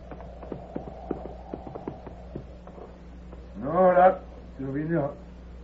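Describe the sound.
A horse's hooves clip-clop in a steady rhythm for a couple of seconds, then fade as a raised voice calls out twice.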